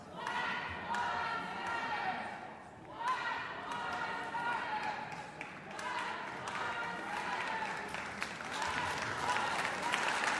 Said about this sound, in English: It sounds like they are saying Black Lives Matter, and members of the orchestra are applauding as well. Interesting moment here at Powell Hall.